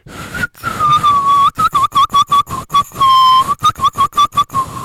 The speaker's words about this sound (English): I can whistle, but, you know, it's I'm not good, like, I don't know if I could whistle a song, to be honest with you. Let's see if I can get a whistle going here this morning.